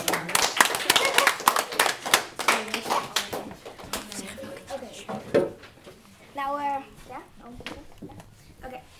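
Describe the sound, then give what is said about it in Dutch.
A short burst of lively clapping from a small group, welcoming the participants of a Whisper Challenge, lasting several seconds before tapering off, followed by voices and a brief high-pitched vocal sound. “Geef ze een groot applaus.”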